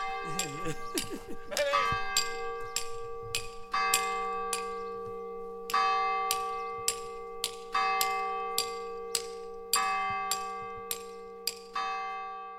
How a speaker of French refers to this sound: Mais tu les as sonnés, toi, les cloches, quand tu étais gamin. Tu les as sonnés, les cloches. Oh, je les sonne toujours. Ah, ouais. Quand tu as envie d'engueuler quelqu'un, tu sonnes les cloches.